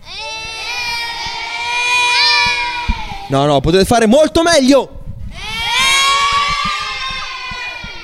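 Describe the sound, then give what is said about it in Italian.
A group of children at Lignano Sabbiadoro, Italy, shouts and cheers together, loud, in two sustained bursts; between them an adult briefly calls out to the group. “Come sentite, oltre ai volontari ci sono anche dei bambini, fatevi sentire!”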